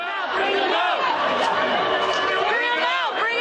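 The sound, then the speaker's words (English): A crowd of more than 2,000 demonstrators (teachers, nurses and public employees) outside the Fairmont Hotel, protesting Governor Schwarzenegger, shouts and yells together. Many overlapping raised voices form a loud, steady roar that holds without a break for the whole stretch. “Outside, more than 2,000 demonstrators also wanted a word with the governor.”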